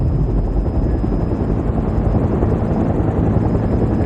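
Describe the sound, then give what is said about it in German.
A helicopter's rotor drones loudly and steadily on the roof of a police headquarters, a dense low chopping roar with a faint high whine running through it, and no voices. “wartete auf mich auf dem Dach des Polizeipräsidiums in seinem Hubschrauber.”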